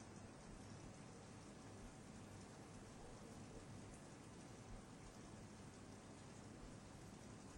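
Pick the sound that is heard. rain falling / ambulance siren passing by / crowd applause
rain falling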